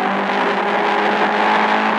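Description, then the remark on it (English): A loud, steady engine of the Ford Mark IV race car, the winning car in France in June 1967, drones continuously with a harmonic-rich roar, sustained at high revs, with no speech over it. “You're listening to the car that won, the Ford Mark IV, a $100,000 car”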